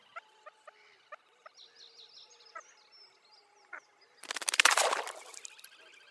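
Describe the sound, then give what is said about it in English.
Quiet back-and-forth calls from a pair of water birds after mating, with soft clicks and faint trilling notes repeating. A sudden loud rushing splash follows as the top bird jumps into the water, and it fades quickly. “The call reaches a climax as the bird mounts, whereupon an extremely quiet exchange of calls is heard before the top bird, oddly male or female, jumps into the water.”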